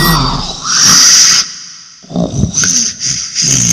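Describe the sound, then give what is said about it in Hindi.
Loud, harsh snoring, sent in as a WhatsApp voice note meant to be an alien's voice, sounds in rasping bursts with a shrill, squealing edge, broken by a short pause midway, then resuming in choppy snorts. No one speaks. “ये आपने खराटे की आवाज एलियन बोल के भेज दी है.”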